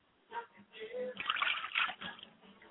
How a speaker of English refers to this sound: We dedicate this glass of water to my mother's spirit, Yamanja, I say. Pour libations to the east, and I say, Ashe.